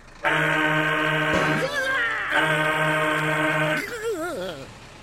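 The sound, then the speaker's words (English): Two long, loud blasts of a truck air horn, each holding a steady deep tone, followed by short wavering voice-like sounds after each blast. “Do I have a horn? Ha! What do you think? Go ahead. Pull down!”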